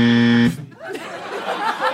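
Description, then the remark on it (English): A loud, deep game show buzzer blares for about half a second with a rich, raspy tone, then cuts off as people begin talking and chuckling. “What a deeper buzz than before.”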